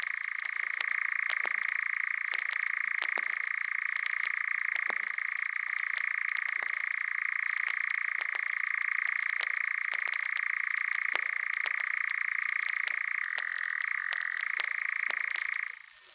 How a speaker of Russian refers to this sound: Темнело. Затянул свою ночную песню Козадой.